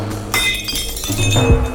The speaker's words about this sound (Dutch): Zet even neer dat glas met bier dat u een dikke pens bezorgt.